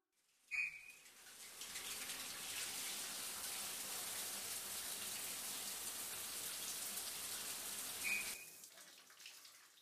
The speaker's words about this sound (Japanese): うんうん、泡を流していこう。